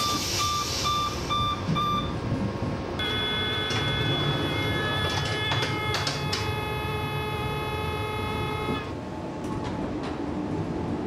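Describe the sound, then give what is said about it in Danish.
A Copenhagen S-train on line B rumbles along from the main station toward Østerport station with steady low noise, while a series of electronic warning tones sound from about three to nine seconds, like a door-closing signal, with no voices. “På vej fra hovedbanen mod Østerport station kører linje B.”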